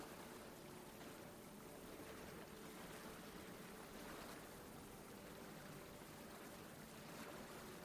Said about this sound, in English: Today's meditation is going to begin on a sandy beach. It's a warm day, and you're sitting on the warmed sand. The sun is high in the sky. You can hear the water crashing on the shore.